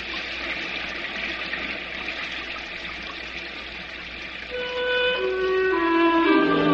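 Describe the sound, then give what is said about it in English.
Steady, dense rain hisses evenly with countless tiny patters; in the final seconds soft sustained music tones rise in beneath it. “I think of them when I hear the million skipping sounds of the rain.”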